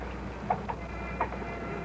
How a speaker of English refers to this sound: Don't you hear the footsteps? Just ours. No. No, I mean the ones behind mine. Just a split second after every step I take. Behind me. Following.